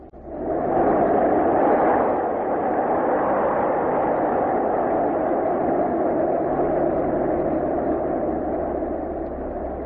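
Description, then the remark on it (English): A loud, unbroken roar of airplane engine noise mixed with rushing wind through the open doorway of a plane climbing for a parachute jump, its door taken off, steady for the whole stretch, with a low droning hum underneath and no voices. “Without the door, the engine noise and the wind are very loud.”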